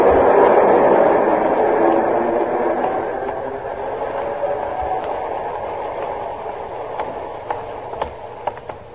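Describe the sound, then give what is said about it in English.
A six-car passenger train with few passengers rolls along the tracks with a steady, broad rumble that slowly eases in loudness, joined near the end by a scatter of sharp metallic clicks and clacks. No one speaks. “Six cars. Not many passengers, Captain.”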